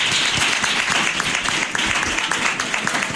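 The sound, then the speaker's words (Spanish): A crowd of students applauds their teachers steadily, dense overlapping claps forming a loud, continuous wash of sound with no voices rising above it. “Así que un aplauso para vuestras profes, ¿no?”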